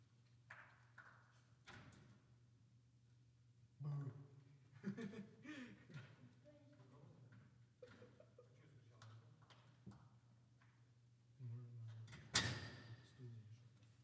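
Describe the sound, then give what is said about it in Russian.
A few faint, spaced knocks on a door over a steady low hum, with muffled voices in the middle and a sharper knock near the end. “Оля, открой дверь, пойди, кто-то стучит.”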